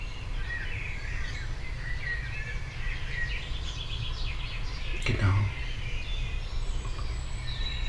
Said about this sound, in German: Ich war deswegen still, weil ich gerade wieder andere Vögel hörte. Ist das, also nicht Amseln, hier ganz nah. Ja, jetzt kommen die Buchfinken.